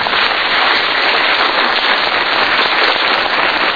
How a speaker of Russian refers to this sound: Мне кажется, хорошие зрители, они знают, когда аплодировать и как.